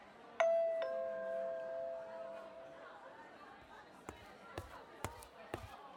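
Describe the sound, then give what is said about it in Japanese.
A two-note electronic call chime from a restaurant table call button, pressed to order food, rings out clearly over restaurant chatter, its tones lingering and fading, followed by a few sharp knocks and clatters from the table. “じゃあ、私はシーザーサラダを注文します。ピンポン押しますね。”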